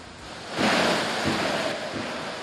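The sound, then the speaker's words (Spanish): Heavy rain pours down in a dense, steady roar of hiss that swells louder after a brief moment and stays constant, with no voices; rain falling in Vigo during a Primera División football match against Osasuna. “De hecho, esto que escuchan es la lluvia de Vigo.”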